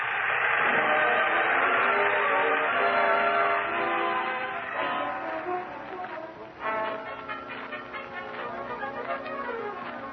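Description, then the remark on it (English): A loud, sustained train whistle blows over rumbling wheels, then fades as the steady rhythmic clatter of a train running on the rails continues. No one speaks. “Life from then on was a series of new shows, new theaters, new towns, trains”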